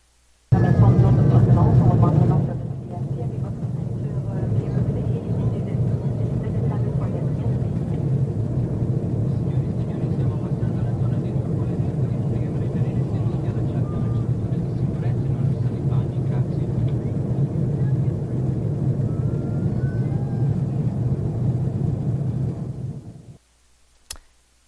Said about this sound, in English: Was the airplane. The captain was talking Italian.